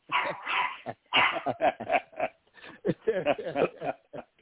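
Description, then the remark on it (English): Dogs fighting, with loud, harsh barks, yips and snarls tumbling over one another in rapid, overlapping bursts that barely pause for the whole stretch. “Man, he got a dog fight right now.”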